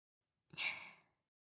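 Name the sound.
big yawn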